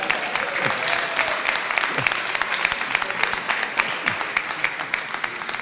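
Sustained audience applause, a dense wash of many hands clapping steadily for several seconds at an even, fairly loud level, with a few faint voices and whoops mixed in.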